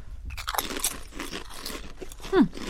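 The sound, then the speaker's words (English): Crisp, irregular crunching of potato chips being bitten and chewed, with a burst of bright crackles and a louder crunch near the end, no talking. “And we're going to do a chip cheers.”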